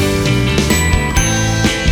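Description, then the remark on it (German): A bicycle bell rings several times in quick, bright bursts, layered over a busy musical backing with steady tones underneath. “Klingeln du und ich die Straßen entlang.”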